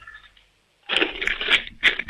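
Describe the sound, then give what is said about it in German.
A coin-filled piggy bank is shaken hard by a seven-year-old boy from the state of Tyrol, giving loud metallic rattling and clinking in several rapid bursts after a brief quiet start. “Dann lauf mal los, ich möchte die Sparbüchse hören. Schüttel die mal richtig.”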